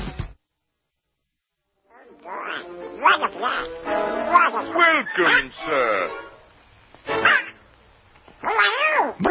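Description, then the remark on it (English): A voice imitates the cartoon duck Donald Duck, with raspy, garbled quacking babble in several loud bursts of duck-like talk after a short silence. “All right, we missed National Donald Duck Day yesterday, the anniversary of the first cartoon from the summer of 1934, The Wise Little Hen.”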